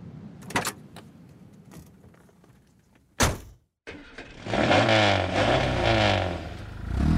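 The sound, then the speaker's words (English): A car door thuds shut and after a brief pause the engine of a red sports car roars to life, revving loudly with rising, shifting pitch as the car accelerates away. “It's a beautiful car, and I love it.”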